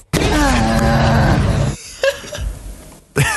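A fox gives a loud, harsh call with wavering, strained tones lasting over a second, followed by quieter clicks and a short sharp burst at the end; the sound of a tennis ball being hit has been added to it.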